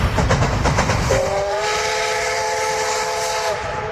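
A steam train chugs with rhythmic puffs, then a loud, steady steam whistle blows for a couple of seconds over the rumbling engine before fading out.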